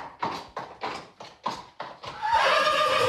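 A white horse ridden by a St. Martin's rider in a St. Martin's procession neighs loudly, a run of rhythmic, pulsing bursts giving way to a sustained, shrill whinny at the end. No one speaks.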